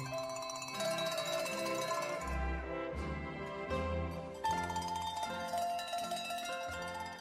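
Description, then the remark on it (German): Several cowbells worn by grazing cows clank and jangle continuously in an uneven, overlapping rhythm, bright metallic tones ringing out together with no voices. “Mithilfe der Kuhglocken findet er sie wieder.”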